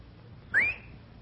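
A single short, rising whistle sounds clearly against quiet background noise, lasting only a moment before fading. No answering call follows and no one speaks.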